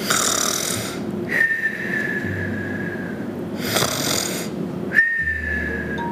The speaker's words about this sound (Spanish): Y el arpa tocó con tal dulzura que el gigante pronto se quedó dormido y comenzó a roncar.